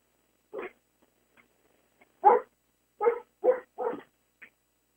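A dog that has just been let out barks in a short irregular series, one bark followed by a pause, then four sharp barks in quick succession, with no talking.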